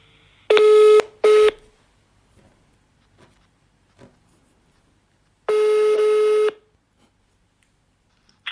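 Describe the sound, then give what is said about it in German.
An outgoing phone call rings: a steady electronic ringback tone sounds in short bursts near the start, then pauses in near silence before one longer ring repeats. No one speaks. “Wir machen das jetzt am Telefon. Also ich hoffe, dass das mit der Qualität gleich gut klappt und rufen wir doch mal durch.”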